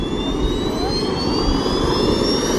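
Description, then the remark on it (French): A loud roar of five small jet turbines powering a Flyboard hovering platform as a man standing on it takes off, with a high whine climbing steadily in pitch as the engines spool up over a dense, constant rush. “L'homme vole sans avion, sans aile, debout dans les airs, juché sur sa petite plateforme propulsée par 5 turboréacteurs.”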